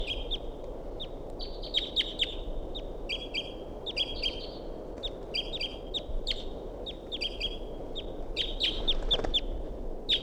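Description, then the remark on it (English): A wild bird circling around calls repeatedly in flight, sharp high chirps and squeaky notes coming in clusters over a steady low rumble of wind noise, with no talking. “Another wild bird circling around.”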